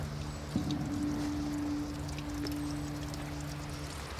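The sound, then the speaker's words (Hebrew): Spring water runs steadily out of a pipe stuck in rock, a continuous splashing gush of drinkable water; a low hollow tone appears partway through, as if filling a bottle. No one speaks. “זה צינור כזה שתקוע בתוך הסלע, והוא פשוט מביא מים החוצה, וזה מים שהם טובים לשתייה.”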